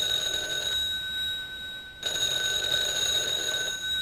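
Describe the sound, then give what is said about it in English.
A telephone bell rings loudly and steadily for a call from Biff, with a brief pause partway through before ringing again. No one speaks. “Hello? Oh, Biff, I'm so glad you called.”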